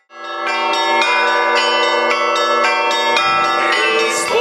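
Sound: church bells ringing festively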